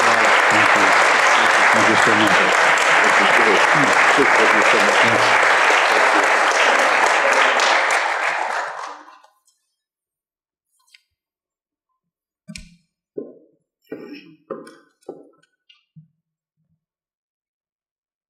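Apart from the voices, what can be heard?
audience round of applause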